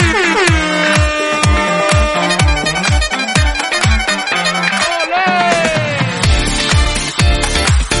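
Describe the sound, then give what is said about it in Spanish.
Loud, blaring horn blasts honk over and over on top of a thumping, rhythmic music track, filling the whole stretch with no pause. “Bocina, bocina, bocina. A ver, para la bocina, niño.”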